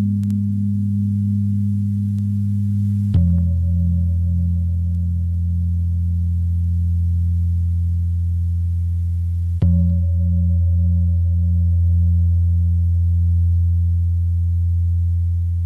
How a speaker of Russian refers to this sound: Прозвучала пара индонезийских гонгов из оркестра «Гамелан».